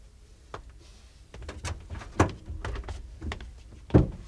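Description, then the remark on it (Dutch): A car door handle clicks and the door of a new car swings open as someone gets in, followed by some shuffling and a couple of solid thunks as the door shuts, with no talking. “Zo, kruip er maar in, mijn hartje.”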